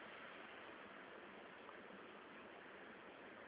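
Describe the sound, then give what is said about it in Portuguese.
Heavy rain pours down in a steady, unbroken hiss, dense and even throughout, heard over a phone line with a muffled, narrow quality. “Tá chovendo aqui, tá caindo um pé d'água.”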